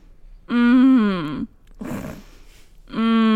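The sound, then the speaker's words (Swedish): A voice imitates the drawn-out, wavering groan a sick man with a sore throat makes on each exhale while sleeping instead of snoring, loud, followed by a breathy noisy intake and the start of another moan. “Alltså istället för att snarka så på utandningen så gör han en röst så här.”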